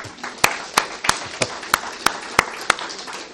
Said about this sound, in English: I think that's worthy of applause.